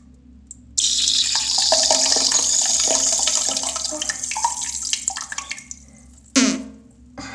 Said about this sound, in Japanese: ズボンとショーツ脱いじゃったので、反対向きに座って座ります。よいしょ、 OK、 座りました。変な感じ。よし、じゃあこれでおしっこしてみます。